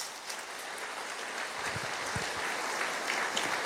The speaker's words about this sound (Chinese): 相信的拍手，把荣耀归给主。